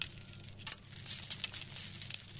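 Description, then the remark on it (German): Chimes made of seashells clatter and tinkle continuously for a couple of seconds, a bright, dense rattle of light knocks, over a faint low hum. “Das ist hier zum Beispiel aus Muscheln.”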